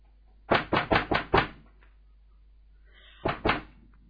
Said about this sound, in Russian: Собираетесь вы уже было ко сну расходиться, как, собственно говоря, стук в дверь. Сильный, слабый. Какой? Нет, сильный, да. Уверенный.